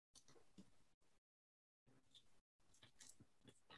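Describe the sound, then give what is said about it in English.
Crunchy chewing sounds come in several bursts separated by brief silences, like someone munching food. No one speaks. “Are you munching?”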